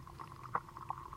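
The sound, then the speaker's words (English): Soft, hissy, tumultuous underwater bustle of mosquito larvae movements, sonified by shining a laser into the water and bouncing it back into photocells; a faint continuous seething texture broken by two brief, brighter blips, with no voices present. “So by shining a laser in there and bouncing it back into a couple of photocells, you can actually sonify the movements of all these little insect bodies under the water.”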